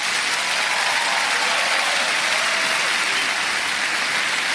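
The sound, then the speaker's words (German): An audience applauds at the start of a TV broadcast, a dense, even wash of many hands clapping at once, loud and sustained throughout with no voices rising above it. “Ich liebe es, wenn wir mit Applaus irgendwie in die Sendung starten.”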